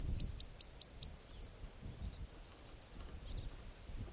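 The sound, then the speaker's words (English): A crossbill sings from the roadside, a quick series of about five sharp, high chip notes, then a looser run of thinner warbled notes, over steady wind rumble and rustling. “Definitely Crossbill's song coming from the roadside.”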